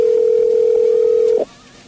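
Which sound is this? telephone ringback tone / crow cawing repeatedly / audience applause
telephone ringback tone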